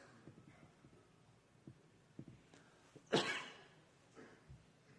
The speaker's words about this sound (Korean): 저는 부담스럽나 봐요. 이렇게 자꾸 기침이나.